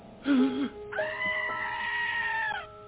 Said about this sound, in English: Goat's having a crisis.